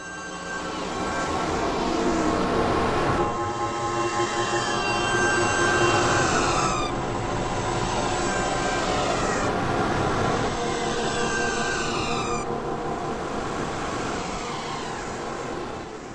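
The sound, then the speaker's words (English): A moving train, heard from the platform at the end of a car, rumbles steadily with a rhythmic clatter of wheels over rail joints, while high metallic squeals rise and fall several times. No one speaks. “Until he got off, he stood there, listening to the train wheels and thinking about Labour Day.”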